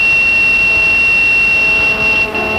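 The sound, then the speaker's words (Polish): An alarm clock beeps continuously in a steady, piercing high-pitched tone that barely wavers, heard fairly loud over a dense wash of background noise, with no talking. “Żeby nie było tak, że zmyślam, to budzik ciągle piszczy.”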